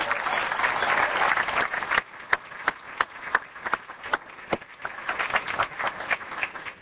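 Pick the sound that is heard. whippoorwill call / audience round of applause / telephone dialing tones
audience round of applause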